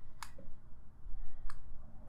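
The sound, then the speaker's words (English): Two sharp, light ticks of a clock, a little over a second apart, over a low steady background hum. No one is speaking. “Sorry, that fucking clock in the background.”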